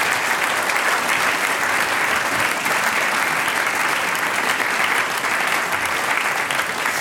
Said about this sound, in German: Alles klar, das ist ein Applaus für die ….